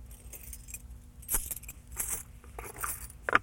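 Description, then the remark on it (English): Metal keys jangle and clink in short bursts as they are put into a box, rattling against it with a few sharper clatters near the end, moderately loud. “Could we put the keys in this box?”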